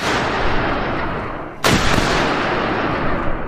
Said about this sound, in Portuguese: A Luana dá o tiro dela.